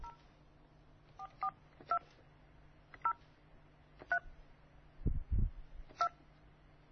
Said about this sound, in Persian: ببینیم که تلفن ما رو آیا جواب میدن یا خیر. من شماره شون رو میگیرم.